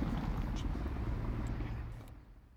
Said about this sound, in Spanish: Y este helicóptero también, todo el rato pasó.